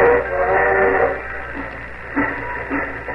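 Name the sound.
train pulling away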